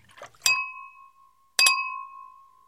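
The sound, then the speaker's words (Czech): Two bright glass clinks about a second apart, each ringing out with a clear, fading tone, preceded by a faint brief rustle, with no voices, as glasses are topped up after a meal. “A pak jsme si dolili sklenice.”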